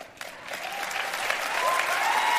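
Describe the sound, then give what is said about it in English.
Steady applause from an audience, many hands clapping in a dense, continuous patter that swells slightly louder toward the end, with no voices standing out. “And the mindless seals clapping along.”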